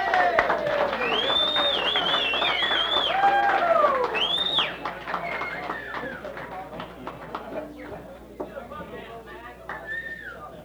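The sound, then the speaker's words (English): An audience claps steadily in a dense patter, with whistles and shouts rising over it, welcoming to the stage a bluegrass promoter who managed a musician. The applause is loudest early, then gradually thins and quiets toward the end. “I'd like to introduce, please make him welcome and keep clapping because he won't come up unless you do”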